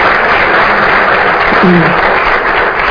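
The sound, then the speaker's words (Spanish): An audience applauds steadily for a few seconds for a female senator, the host, for supporting an initiative: a dense, loud wash of many hands clapping at once, with a brief hint of a voice beneath it. “Yo les pido también un aplauso para ella, por favor, por apoyar esta iniciativa.”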